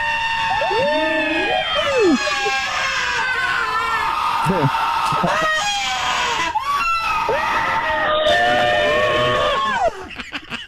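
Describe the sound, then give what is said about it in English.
Shrill screams of Halloween Horror Nights at Universal Studios Hollywood pile on top of one another almost without pause, several voices wailing and shrieking loudly at once, before the din suddenly thins out near the very end. “There is a stop to those screams, thank God.”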